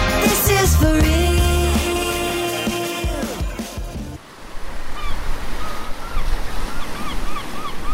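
Sustained music plays for about four seconds and cuts off, giving way to a steady, fairly loud wash of sea waves on the shore at Ostia, Italy, with faint bird calls over the surf.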